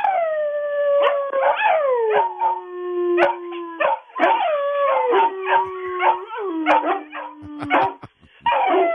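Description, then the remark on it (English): A beagle and a Great Dane named Junior howl together, with long wavering howls that rise and slide down, broken by short yips and barks over about nine seconds. No one speaks. “A beagle and a Dane.”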